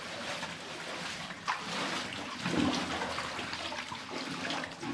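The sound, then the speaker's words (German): Steady splashing and sloshing of someone wading through ankle-deep water in a slippery tunnel, with a few heavier splashes from steps, fairly loud, with no talking. “So, jetzt wird das Wasser hier richtig tief machen. Es geht schon bis zum Knöchel.”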